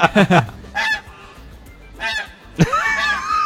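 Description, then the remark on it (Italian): A goose call device honks several times in quick loud bursts, with short pauses between the nasal, reedy blasts and a longer drawn-out honk at the end. “Perché richiamo per gli uccelli? Questo è il gabbiano. Questo è l'occa.”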